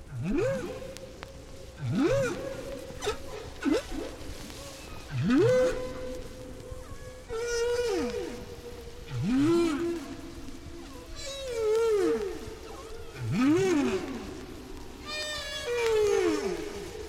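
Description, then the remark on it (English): Humpback whale song recorded five years after an earlier recording of the same shared song: repeated rising and falling moans and upsweeping cries, long tonal calls recurring every couple of seconds with eerie harmonics, echoing underwater with no talking. “Humpback whales gather and sing near many other tropical islands”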